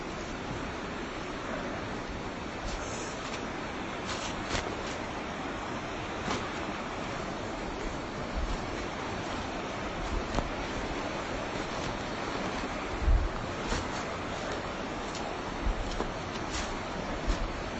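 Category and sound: nature, flowing river water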